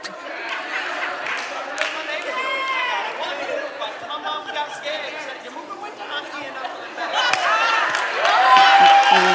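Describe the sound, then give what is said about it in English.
A rowdy crowd in Florida cheers and chatters with many overlapping voices, a steady loud din that swells even louder toward the end. “You guys are rowdy. It's a rowdy crowd in Florida today.”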